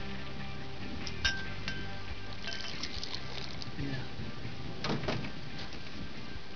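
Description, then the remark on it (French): Tonic water pours steadily into a glass, a continuous fizzy, splashing hiss with a couple of bright glass clinks along the way. “Une rivière de tonique.”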